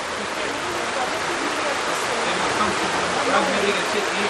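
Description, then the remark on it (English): Heavy rain pours in a steady, dense hiss across the whole clip, loud and unbroken, with a faint murmur of voices blending into the wash. “Here it's raining quite heavily for those connected online who cannot, who are wondering what's going on.”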